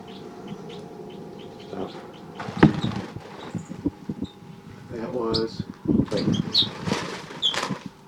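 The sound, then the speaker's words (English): Captive crossbills in a neighbouring cage cell call with scattered high chirps while feeding on sunflower seeds on the cell floor, with bursts of rustling, crackling seed noise and brief wing flutters rising and falling throughout. “And hearing the next cell, birds calling a lot in the next cell.”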